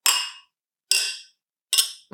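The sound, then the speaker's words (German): Glasses clink together in a toast, three bright ringing chimes roughly a second apart, each fading out slowly, with a duller knock starting just at the end. No one speaks. “Das klang relativ schön, sonst klingt ja nicht so gut.”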